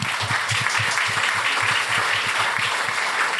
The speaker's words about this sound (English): I just wanted to once again thank the Smith Family Foundation. They, of course, have been wonderful supporters of this series from the very beginning. Without them, it would not be possible. So I just want to give them a round of applause.